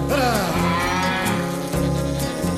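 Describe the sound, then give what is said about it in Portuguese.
An ox lets out a long, loud, drawn-out moo, its deep lowing tone wavering and sustained for nearly three seconds with hardly a break. “Era boi. Era boi.”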